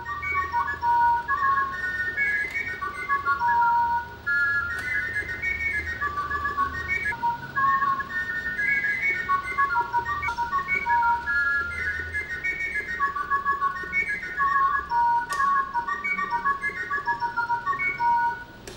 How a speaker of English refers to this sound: To fit a songbird in a watch, Pierre Jacques-Édron invented a whistle with sliding pistons, enabling one to modulate the song of the bird with a single flute, as in this rare piece presented in London in the 1780s.